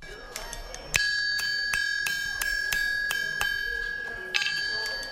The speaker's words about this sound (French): Les coups de marteau résonnent sur le fer encore chaud que bat le forgeron. Dans cet atelier, on fabrique des chaises, des tables ou encore des lits. Bienvenue au village artisanal Wadata de Niamey, qui regroupe une centaine de professionnels.